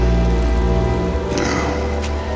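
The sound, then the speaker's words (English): Steady rain drums on a large metal drum in a dense, continuous patter, fairly loud, with a low humming tone sustained underneath and no voices. “You are listening to the noise of rain beating breathe against out. A large metal drum.”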